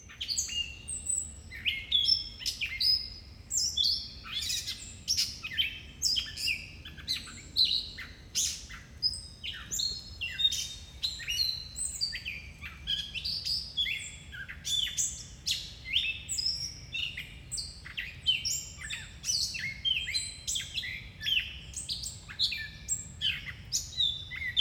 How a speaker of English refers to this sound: They're in the mimic thrush family, meaning they can copy the songs of other birds, but their signature mew sound, like a cat